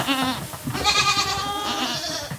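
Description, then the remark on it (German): Several young goats bleat in quick, overlapping, wavering cries, loud, filling the whole moment with a chorus of high-pitched calls and no talking, at a goat farm with more than 1000 goats in its stables on the Lower Rhine, Germany. “Kleinen Ziegen.”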